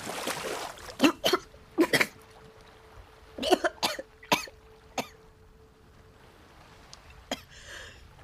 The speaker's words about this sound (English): And then you suddenly realize you can't breathe that long in the water, and you start to choke.